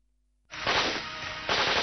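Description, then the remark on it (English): Explosions and crashing from an action-adventure film playing in the next room: after a brief low hum, a sudden loud blast erupts into a sustained, crackling roar of rumble and debris, swelling again just before the end. No voices. “It's awful to do maths when something is blowing up and crashing in the next room.”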